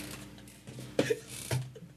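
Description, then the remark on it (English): A chair squeaks and creaks twice in quick succession, each a short, rasping burst with a brief tonal whine, over a quiet background with no talking. “What's that loud my chair is saying?”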